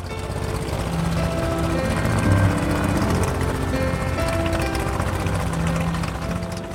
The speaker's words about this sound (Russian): Нейт нажал на стартер, пропеллеры сделали несколько оборотов, и машина двинулась с места.